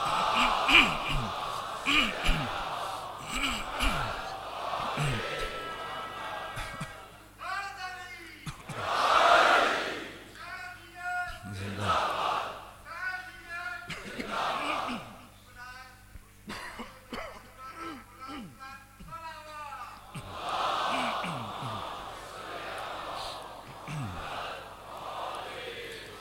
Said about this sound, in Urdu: ایک صلوات پڑھ دیجئے خاندان فاطمہ پر